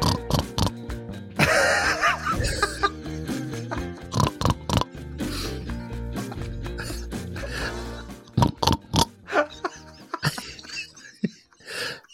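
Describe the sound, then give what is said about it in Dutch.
A person imitates a pig, producing a run of snorting grunts and nasal oinks in bursts, loud, with short pauses between the squealing snorts and no ordinary talking. “Hallo Gijs, ik ben het knorretje.”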